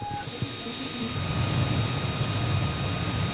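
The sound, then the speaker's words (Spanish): A steady mechanical whir and low buzz of 3D printer stepper motors as the heated printer starts moving, extruding a little hot plastic while the tray moves, with faint high-pitched whine tones, moderately loud, no voices. “Ese es el ruido que hacen los motores cuando empieza a funcionar.”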